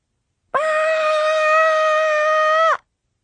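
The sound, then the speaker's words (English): A person lets out one loud, sustained scream lasting about two seconds, held at a steady high pitch before cutting off abruptly, with silence on either side. “That is me screaming.”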